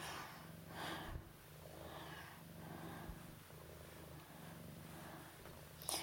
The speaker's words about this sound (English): Yeah, that's you. A cat that likes to talk. You always have to put your oar in, don't you, Missy Meowser?